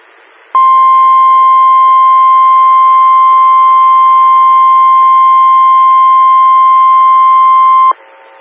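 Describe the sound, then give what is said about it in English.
A single loud, steady electronic alert tone holds one high pitch without a break for about seven seconds, then cuts off abruptly: a weather radio severe thunderstorm warning signal, ahead of a National Weather Service Milwaukee/Sullivan warning for southeast Wisconsin. “Attention, severe thunderstorm warning.”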